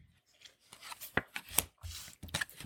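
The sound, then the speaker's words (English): Playing cards flipped off a deck for an intelligence streetwise check in a game, a few crisp irregular snaps with soft sliding and rubbing between them, no voices. “Can I flip something for it?”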